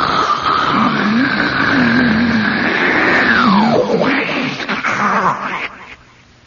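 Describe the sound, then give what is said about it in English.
A voice imitates the sea rolling back out of Thunder Hole, a hole the ocean has worn into the side of a sea cliff, with a long, loud gurgling roar that rises, sweeps down in pitch, then churns and fades out, heard alone. “And the sea comes roaring into it, and then it goes out with a sound. It's called Thunder Hole. When the sea goes rolling back out, it goes...”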